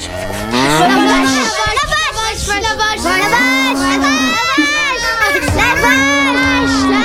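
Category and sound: animal, cow mooing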